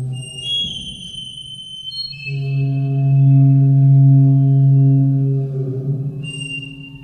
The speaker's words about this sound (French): J'ai un thérémine plus les gants Larsen en fait. L'enceinte est horizontale et j'ai le thérémine à côté.